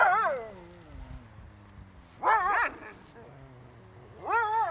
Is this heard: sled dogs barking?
yes